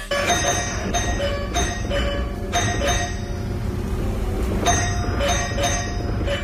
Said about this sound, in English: That's someone's doorbell. Mm-hmm. And it's not a person ringing it. It's a woodpecker.